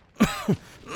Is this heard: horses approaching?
no